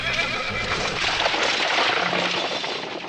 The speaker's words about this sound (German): Hat er da gerade ein Pferd gehört? Ach, herrje, genau unter seinem Hotelfenster verläuft die Straße. Und hier in der Hamburger Hafengegend ist so spät abends erst richtig was los.